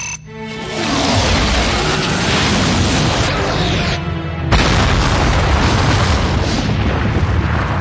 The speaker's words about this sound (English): Particle cannon! Particle cannon. Aye, sir. Vaporize or rubble, sir.